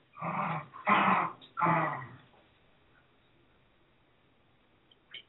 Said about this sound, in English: Stop right, is that a dog? Well, actually, that's 3 dogs